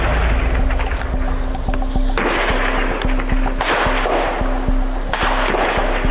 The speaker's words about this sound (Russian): Это была первая стрельба в Луганске. Не просто так. Пиф-паф, и на этом все успокоилось так. Где-то постреляли. Это была самая настоящая первая стрельба. 4 утра.